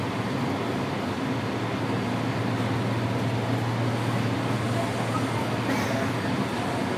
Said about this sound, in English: Step back to allow customers to exit. When boarding, please move to the center of the car. This is a red line train to Shady Grove. The next stop is Farragut North.